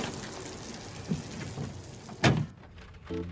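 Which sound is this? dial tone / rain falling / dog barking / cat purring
rain falling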